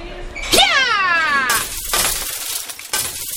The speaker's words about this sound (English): Ma'am, what are you doing? Why are you knocking all the glasses off the tables? Please stop or I'll call the police.